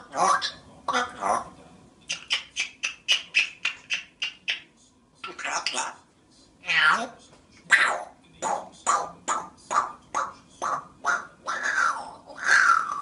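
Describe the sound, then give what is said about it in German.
A talking parrot chatters in quick bursts of squawky, voice-like syllables and whistles, mimicking funny noises in a choppy rhythm. It sounds fairly loud, with short pauses between the calls. “Ich habe mal in unserem Tonarchiv gekramt und einen Papagei rausgesucht, der nicht nur spricht, sondern auch ein paar lustige Geräusche nachmacht.”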